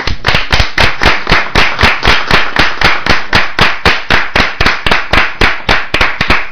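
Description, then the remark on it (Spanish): Loud clapping in a steady, even rhythm of about three to four sharp claps per second, given as thanks to the people who donated clothes. It continues for several seconds with no talking over it. “O también queremos decir de aquí de programa, agradecer a todas las personas que han donado la ropa, darle las gracias, y nada, que va por ellos, un aplauso.”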